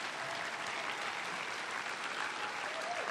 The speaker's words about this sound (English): So those people deserve props, and I wish that those stories could be told in more fuller detail, but I'm going to represent for them tonight and give them a round of applause because they're not here, but they're hard at work.